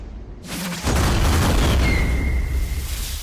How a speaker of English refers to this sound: More explosions erupt as the guns spit out their last rounds. Smoke drifts across the shattered remains of the target level, and the rotating gun barrels spin to a stop.